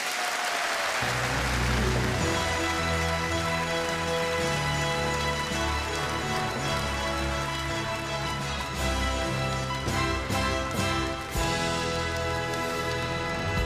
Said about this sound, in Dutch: Mag ik een groot applaus voor onze jubilaris, André van Duin!